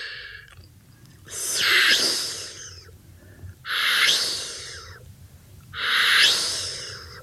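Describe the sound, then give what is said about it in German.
Rühm's voice makes three breathy, drawn-out hissing sounds laced with thin whistling tones as material for a sound-poetry meditation, each lasting over a second and repeating at even intervals of about two seconds, with no talking. “Auch Pfeif- und Zischgeräusche gehören zum Material.”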